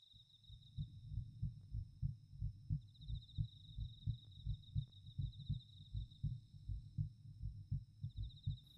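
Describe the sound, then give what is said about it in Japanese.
A fast heartbeat thumps steadily, each low, muffled double beat following quickly on the last, with a faint high whine running in the background and no voices. “だから鼓動も早くなってる。”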